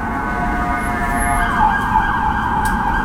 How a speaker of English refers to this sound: That'll be a fire truck.